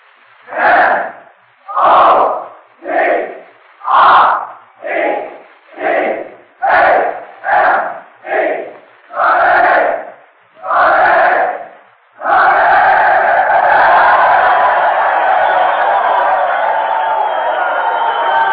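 A crowd of men of Notre Dame university shouts a rhythmic team cheer in about a dozen loud, evenly spaced bursts, then breaks into sustained roaring cheers and applause.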